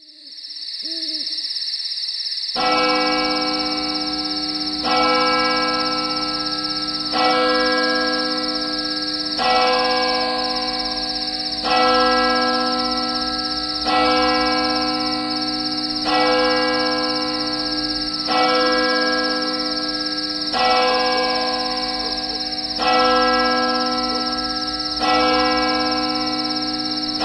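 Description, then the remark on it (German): A church tower clock strikes midnight with slow, evenly spaced bell strokes, each ringing and humming into the next. The tolling is loud, steady and unhurried, with a faint hoot just before. “Die Kirchturmuhr schlägt Mitternacht.”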